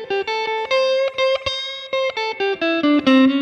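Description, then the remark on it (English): A fast electric guitar lick in the key of A, hammering on and pulling off at fret 7: bright distorted notes flicking up and down in a quick, uneven rhythm before settling on a lower sustained note. No talking. “In the key of A, we're hammering on the fret 7 and pulling off.”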